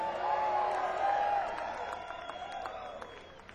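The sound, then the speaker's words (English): A live concert audience applauds and cheers for the band's Hammond organ player, a dense wash of clapping with a few sharper individual claps and high, wavering whoops early on, tapering off slightly toward the end. “You're clapping that right there, y'all.”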